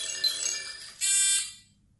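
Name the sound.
doorbell ringing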